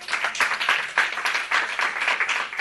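A crowd applauds steadily, many hands clapping in a dense, continuous patter with slight swells in loudness, no voices standing out.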